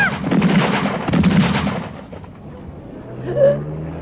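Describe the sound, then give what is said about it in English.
Two loud bursts of rapid gunfire, fired from a car by a masked man, crack out in the first second and a half. The shots then give way to a lower rumbling engine-like drone with a brief higher tone. “Oh, my God, I'm shot.”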